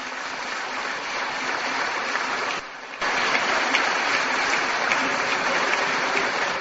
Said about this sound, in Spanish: Pero oye, solo voy a pedir el aplauso de todos. Oye.